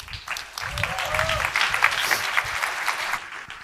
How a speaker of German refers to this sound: Ihr seid soweit? Bühne frei, großen Applaus nochmal.